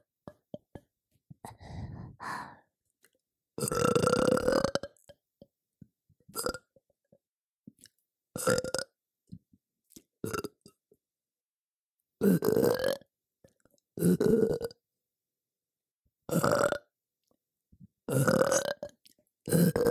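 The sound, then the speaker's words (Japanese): A run of about ten loud burps, some long and drawn out, others short, each separated by brief silences, with no talking. “ゲップ最高です。”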